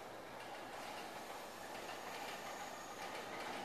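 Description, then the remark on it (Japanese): A 15-car train with four doors per car arrives at platform 10, terminating at this station, with a steady, broad roar of wheels on rails and a faint rhythmic clatter, holding at an even level throughout with no voices. “まもなく10番線に当駅止まりの電車が参ります。”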